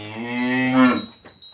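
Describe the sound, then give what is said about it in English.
A cow, one of a family's seven cows in the village of Soutveren, lets out one long, loud moo lasting about a second, its deep voice steady and then trailing off, with no talking. “Here, 26-year-old Olcay Alsan takes care of his family's seven cows.”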